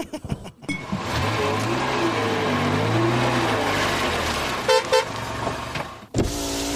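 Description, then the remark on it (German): A car drives past with steady, fairly loud engine and road noise that rises and falls in pitch, plus a brief tonal honk-like burst near the end; no one speaks. “Wenn ihr euch fragt, warum ich gerade hier vorbeifahre,”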